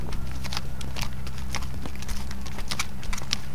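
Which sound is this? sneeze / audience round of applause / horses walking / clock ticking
horses walking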